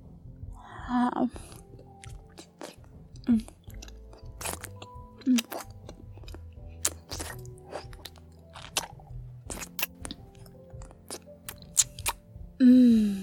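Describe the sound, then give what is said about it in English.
Wet sucking and slurping mouth sounds of oral sex on a penis repeat irregularly, with smacking clicks and a louder burst near the end, and no talking. “Sucking your cock has made me even wetter.”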